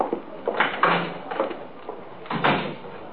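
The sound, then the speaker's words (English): A side door is opened and then shut a couple of seconds later, with short knocks and scrapes of the handle and frame. Nobody speaks. “Use the side door, will you?”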